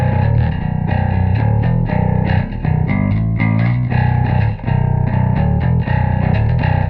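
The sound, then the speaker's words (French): A bass guitar run through a tiny Steve Harris model amp emulation pedal, with speaker emulation, connected to both an amp and a mixing console, plays a steady line of punchy, overdriven notes, loud, gritty and thick in the low end, with no voices over it. “Alors ça, les enfants, ça en live, émulation d'enceinte branchée et sur un ampli et sur une console, je pense que vous avez un gros son, vous avez de quoi faire peur au reste du groupe, alors que vous avez un truc minuscule sous la main.”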